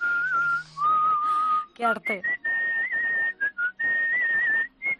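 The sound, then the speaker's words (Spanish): A person loudly whistles the slow, melodic processional march Madrugá Macarena with long sustained notes, as a phone ringtone, while a voice briefly speaks over it partway through. “Mírale, cómo silba.”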